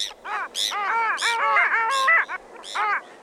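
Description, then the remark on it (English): A dense chorus of long-tailed ducks and Bonaparte's gulls overwintering from the Arctic, nasal yodeling calls overlapping with squeaky, high-pitched notes, continuous, with no voices, at the Stella Niagara Preserve just downstream from the falls on the Niagara River. “Just downstream from the falls at the Stella Niagara Preserve is my favorite spot to be serenaded by long-tailed ducks and squeaking Bonaparte's gulls overwintering from the Arctic.”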